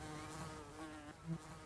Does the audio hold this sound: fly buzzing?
yes